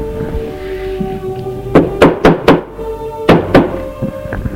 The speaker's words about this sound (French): On frappe à la porte.